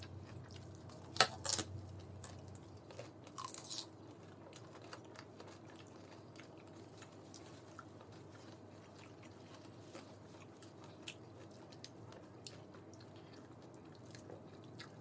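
Someone chews a slightly undercooked piece of chicken, soft wet squishes and small irregular clicks repeating throughout, with a couple of louder crunchy bursts early on and no talking.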